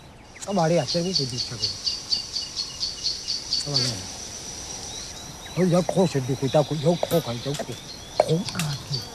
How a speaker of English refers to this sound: He hears a bird alarmed, and this tells him a leopard might be nearby.